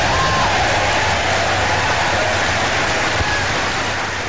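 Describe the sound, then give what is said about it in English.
Thunderous, sustained applause from members of the House and Senate at a joint session of Congress after the president's speech about the attack on Pearl Harbor, a dense, steady wash of clapping that stays loud throughout with no distinct voices, over a faint low hum. “Again, you're hearing a full applause from members of the House and Senate together for that joint speech from the president about the attack on Pearl Harbor.”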